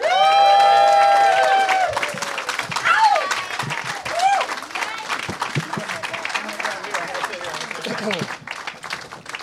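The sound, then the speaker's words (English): A crowd bursts into loud applause with whoops and cheers as four guests are introduced, sustained clapping filling the whole stretch while a few voices shout over it, the noise easing slightly toward the end. “Please give it up for Dustin Ibarra, Amy Miller, Michael Dowse, and Josh Wolf.”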